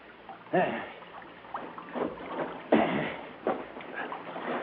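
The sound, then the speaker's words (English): With its motors cut, a boat drifts in and its hull scrapes and grinds up onto a sandy beach in a small cove in several rough surges as it is slid ashore, with lapping water and faint murmuring voices underneath. “we drifted into the beach. As we slid the boat up on it...”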